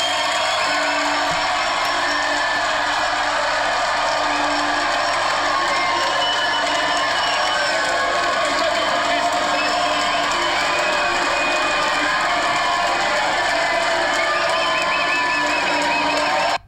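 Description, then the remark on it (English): A large concert crowd at the Power Station venue cheers loudly at the end of a band's set on a Thursday night, a dense wall of shouts, whoops and roaring voices sustained for the whole stretch without letting up. “I've never heard the power station this loud. Listen to this. This is at the end of their set, okay?”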